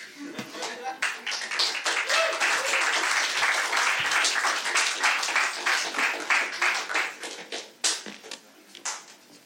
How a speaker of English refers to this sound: Another kind round of applause